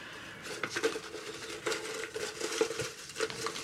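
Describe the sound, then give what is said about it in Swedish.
Steady rustling and crinkling of numbered paper slips with small clinking touches against a jewel-encrusted gold goblet, as the slips are stirred and one is drawn out for a prize draw; no one speaks. “Och samma nummer finns på papperslappar som vi har samlat i en juvelbesatt bägare av guld.”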